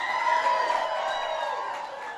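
A large crowd cheers and applauds steadily, a dense wash of clapping and shouts with a few high whoops rising above it, sustained without pause from start to finish.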